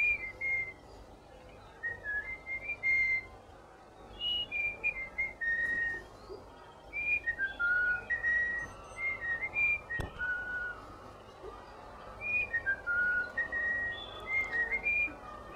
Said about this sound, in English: In dieser Zeit hat er sogar einen artfremden Gesang gelernt. Er balzt sein vermeintliches Weibchen mit einem Volkslied an. This is a bird whistling.